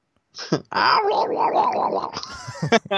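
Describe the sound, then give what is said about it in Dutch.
A murloc's gurgling video-game call: a loud, warbling, bubbly cry that wobbles up and down in pitch for about two seconds, ending in a few short throaty bursts. “Dat is dus een beetje het geluid van een Burglok.”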